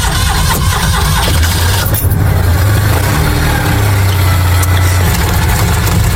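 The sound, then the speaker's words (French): A small two-cylinder Citroën 2CV engine starts and idles with a loud, steady, slightly rattling putter and a low throbbing hum, its pitch wavering only a little throughout, at a 2CV outing in Thouars, France. No one speaks. “Inimitable au démarrage, le ronron rageur d'un moteur sans ambition.”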